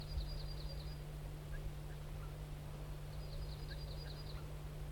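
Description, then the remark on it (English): Two short bursts of rapid, high type 1 alarm calls from a wild crossbill that has flown to a spruce, a quick run of sharp notes each time, faint over a steady low background hum. “The crossbill wild bird gave some type 1 alarms and then flew to a spruce. There he's giving alarms again.”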